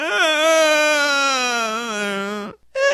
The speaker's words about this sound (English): Just love that you can hear that poor chair basically screaming for help.